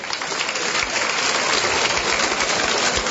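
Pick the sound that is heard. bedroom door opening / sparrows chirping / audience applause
audience applause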